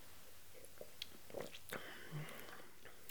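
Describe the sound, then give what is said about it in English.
Quiet sipping of tart cider, a blend of wild apples, from a glass: a few soft slurps and small wet mouth clicks spread across a few seconds, with no talking over them. “This sort of smells like juniper berries and caramel, but it's definitely time to taste it.”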